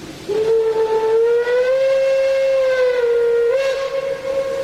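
A locomotive whistle blows one long, steady tone lasting about four seconds, bright and loud with rich harmonics, its pitch rising slightly midway and wavering near the end, with no voices.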